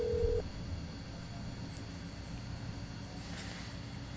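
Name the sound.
telephone dialing tones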